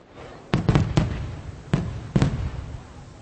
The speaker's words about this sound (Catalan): Menjàvem embafadors dolços de coco i ametlles i encenien focs d'artifici al carrer.